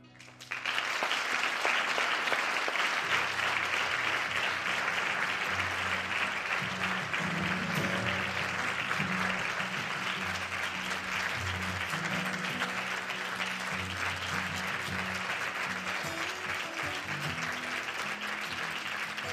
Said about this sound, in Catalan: En el teatre hi ha un moment encara més màgic que quan s'encenen els llums i el públic aplaudeix.